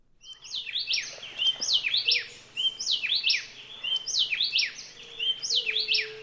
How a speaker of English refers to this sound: Now I'm going to introduce you to a few more of the birds in this chorus. Let's listen to the happy wren with his beautiful whistle.